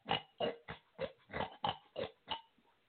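A pig oinks about eight or nine times in quick, steady succession, each grunt short and snorty, clear with no talking over it.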